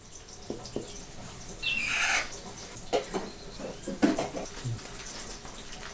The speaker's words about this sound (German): Auf einem riesigen Herd, der den Kochmaschinen aus Großmutters Zeiten ähnelt, kocht Wasser.